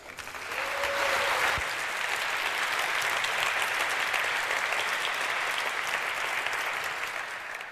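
Sustained audience applause, a dense steady wash of many hands clapping that rises quickly and holds evenly for several seconds, with a brief whistle near the start and no talking.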